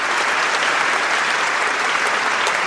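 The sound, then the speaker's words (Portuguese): Sustained applause from a crowd for the radio program Hora do Fazendeiro of Rádio Inconfidência de BH: a dense, steady wash of many hands clapping at an even loudness for a few seconds, with no voices rising above it. “Merece uma salva de palmas, não é? Palmas, palmas, palmas para a Hora do Fazendeiro da Rádio Inconfidência de BH.”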